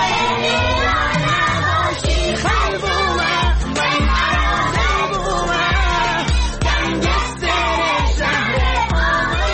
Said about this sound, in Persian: یک ترانه رو که این روزا تو فضای مجازی پرطرفدار شده برای بچه‌های کلاسش پخش کرد و اونها هم همخونی می‌کردن.